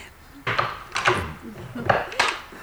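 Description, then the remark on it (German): A door chain is unlatched: a few short metallic rattles and clinks spaced out over a couple of seconds, with quiet handling noise in between. “Einen Moment, ich löse die Kette.”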